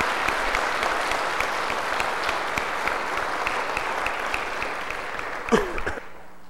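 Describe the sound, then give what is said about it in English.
An audience at a church service claps steadily for about six seconds to thank the preachers, a dense wash of many hands at an even level, then the applause tapers off quickly with a final few scattered claps. “If we thank the organist with applause, you might as well thank the preachers, too.”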